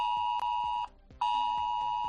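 A loud, piercing S-Alert mobile phone emergency alert tone, sent to residents of Las Rozas de Valdearroyo, Valdeprado del Río and Valderredible in Cantabria to warn of problems around the dam, sounds in two long sustained bursts separated by a short gap, with a harsh buzzing texture and rhythmic pulsing underneath.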